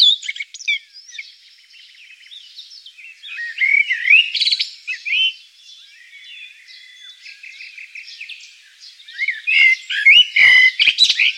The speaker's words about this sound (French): Mais restons sur les oiseaux, peut-être. Puisque les oiseaux furent aussi une révélation pour vous, Vassiane Després, très tôt. Avec notamment le chant d'un merle.